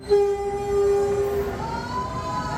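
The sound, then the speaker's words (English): A Maya Train passenger train in Mexico rumbles along the rails, its steady low roar carrying a long sustained horn tone that bends and fades as it passes. No voices are heard. “Last December, Mexico completed a big infrastructure project, the Maya Train.”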